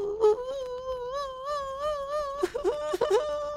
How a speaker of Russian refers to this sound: И вдруг набрел на плачущего